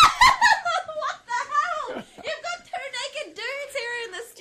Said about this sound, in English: I don't know if that was a good scream or a bad scream, but it was a scream either way.